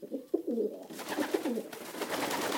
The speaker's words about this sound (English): And then the messenger pigeon fluttering to the lieutenant's hand with vital news. Today, messenger pigeons are called homing or racing pigeons.